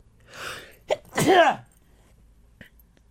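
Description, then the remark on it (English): A single loud sneeze: a breathy inhale building up, a brief catch, then a sharp explosive burst that trails off, followed by a faint click and quiet. “I'm about to sneeze. Sneeze on air if you do.”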